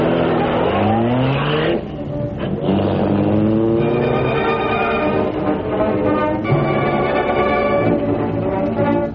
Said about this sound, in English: Did you get a look at that car that went along the alley? Car? No, Tommy. Why? Well, nothing much. Only it looked like that car the Green Hornet's supposed to drive. Kind of low and awful fast.